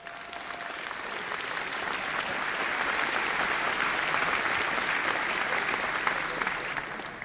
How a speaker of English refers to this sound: Please welcome him with a great round of applause.